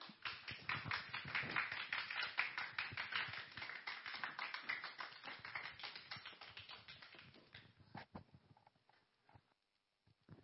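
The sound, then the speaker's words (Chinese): At a youth Sunday service, an audience applauds to welcome a preacher, a dense, steady patter of many hands clapping for about eight seconds before thinning to a few scattered claps and fading out. No one speaks. “好，他今天是我们的青年主日，我们热烈拍手欢迎他。”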